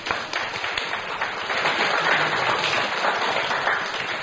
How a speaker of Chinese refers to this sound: 我们为福临团雅各小组鼓掌好不好？